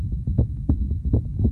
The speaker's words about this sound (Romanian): Acum auzi bătaia unei vieți.